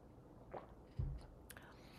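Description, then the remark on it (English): A quiet sip of tea, followed by a soft thud as a cup is set down and a faint light clink. No one speaks. “Now I think I brought this from a different teaching, but let me take a sip of tea first.”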